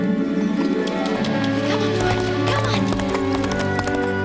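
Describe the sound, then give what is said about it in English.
Hooves of a horse named Stripes canter steadily up a hill in a quick, rolling rhythm, loud, layered over a busy background with some vocal sounds mixed in. “ups the pace and Stripes canters up the hill.”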